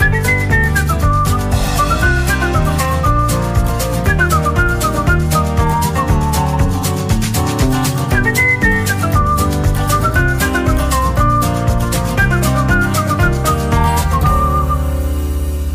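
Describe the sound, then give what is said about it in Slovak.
A whistled melody rises and falls over a full, steady instrumental backing, carrying the tune clearly throughout with no singing or talking. “Tak si zapískám a vzpomenu si na venkovský ráj, na káči, na husy.”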